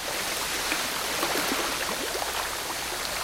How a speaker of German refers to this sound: Unser Natursound kommt diese Woche aus Island von einem Geysir. Das sind so heiße, blubbernde Quellen, die in mehr oder weniger regelmäßigen Abständen eine heiße Wasserfontäne in die Luft schießen.